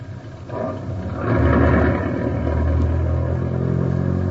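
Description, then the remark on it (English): A stolen car's engine rumbles, swelling louder as it revs and pulls forward to be driven inside, then settling into a steady, heavy idle-like drone with some faint rattling. “I got a hot car and you can't hear the bell. Come on, let's get this thing inside.”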